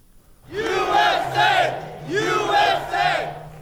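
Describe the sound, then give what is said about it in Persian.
A loud crowd of Donald Trump supporters in Florida cheers as the media announce the unofficial US presidential election result. Many voices rise together in rhythmic, chant-like bursts, with two pairs of swelling shouts and brief dips between them. “شادمانی هواداران دونالد ترامپ در لحظه‌ای که رسانه‌ها نتیجه غیر رسمی انتخابات آمریکا را اعلان کردند.”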